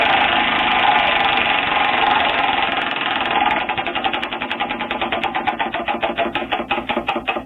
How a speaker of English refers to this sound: So today, as every day, 3 a.m. hits, and we spin the wheel of culture quarterbacks.